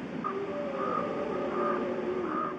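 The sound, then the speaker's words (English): Several wolves howl in long, overlapping wavering tones while ravens give occasional hoarse calls in Yellowstone, recorded with remote microphones by the National Park Service's Natural Sounds Program, all set against a steady, noisy outdoor background with no talking. “Wolves and ravens in Yellowstone.”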